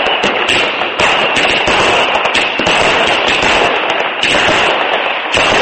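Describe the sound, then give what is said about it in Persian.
Fireworks crackle and bang at a New Year celebration at the Brandenburg Gate in Berlin in sub-zero weather, in a dense, continuous barrage, with rapid overlapping pops and sharper bursts recurring about every second, loud throughout with no pause. “صدها هزار تن در دروازه معروف براندنبورگ در شهر برلین گرد هم آمدند و در هوای زیر صفر درجه با رقص و پایکوبی و آتشبازی مراسم گرمی برپا کردند.”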